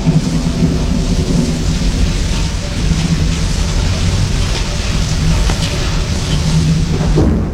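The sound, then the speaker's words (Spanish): A heavy rainstorm hisses steadily while deep thunder rolls and rumbles continuously underneath, loud, with a sharper crackle near the end. “Y el rayo comenzó a rugir, y la tempestad y la lluvia caía protegiendo la huida de los habitantes de Palenque.”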